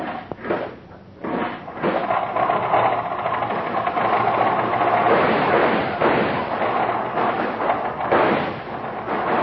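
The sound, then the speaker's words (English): An old automobile engine is cranked by hand while the spark lever is held down. It cranks with a short sputter, pauses briefly, then catches and keeps running with a loud, rapid, rattling chug that stays steady to the end. No one speaks. “I'll crank it up. You hold the spark lever down”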